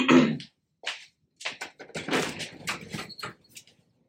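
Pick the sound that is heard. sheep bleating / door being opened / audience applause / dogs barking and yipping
door being opened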